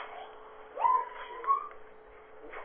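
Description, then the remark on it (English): Two short, high-pitched dog yips or barks, roughly half a second apart, sound thin and muffled through a caller's unmuted telephone line over a steady background hiss. “Somebody demuted your line and is allowing us to be able to hear the dog barking.”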